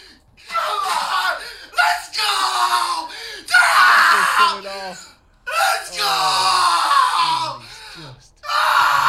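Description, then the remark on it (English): A man screams in celebration after Korea scores a goal against Ghana to make it 2-1. He lets out several loud, strained bursts with short breaths between them, near the edge of distortion. “Screaming, we love to see.”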